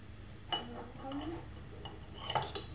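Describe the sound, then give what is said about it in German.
A honey pot and a glass jar clink together as they're handled to refill the jar with honey, a few sharp chinks scattered over a couple of seconds amid quiet rustling, with faint voices murmuring underneath. “Dann können wir wieder in unser Glas füllen.”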